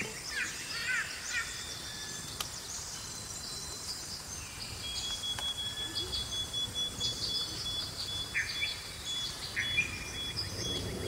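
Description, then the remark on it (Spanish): Dense jungle ambience: a steady wash of insect buzzing and trilling, with scattered bird chirps and calls rising above it, continuous throughout with no voices. “Y la selva es un lugar que al solo nombrar nos aparecen un montón de sonidos. Tiene su propio universo sonoro.”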